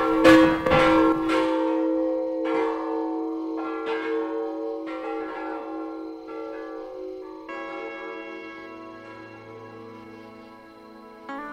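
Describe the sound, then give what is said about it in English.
Large metal chimes made from oxygen acetylene bottles, hung in a treehouse bell tower about 86 feet up, are rung in a series of loud, resonant strikes, each tone sustaining and overlapping into a long shimmering decay, with no talking. “Chimes are up in here. They're oxygen acetylene bottles. I'll ring them for you.”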